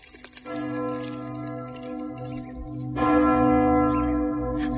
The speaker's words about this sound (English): The cathedral great bell is sounding.